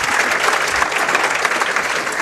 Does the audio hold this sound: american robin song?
no